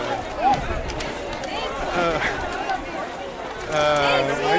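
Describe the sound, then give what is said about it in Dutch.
A dense crowd murmurs and chatters all around at a busy outdoor market crowded with mobility scooters, overlapping voices and occasional brighter calls cutting through the steady bustle. “Dat is wel een enorme drukte.”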